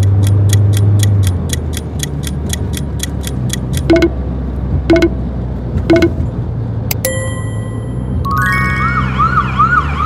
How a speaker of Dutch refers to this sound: Where is the ambulance?